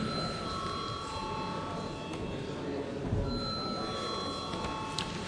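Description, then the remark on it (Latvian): A parliament chamber bell rings steadily for several seconds before a vote, a continuous electric tone at moderate volume over a faint background murmur in the chamber. “Paldies, lūdzu zvanu.”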